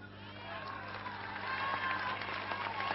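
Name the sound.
audience applauding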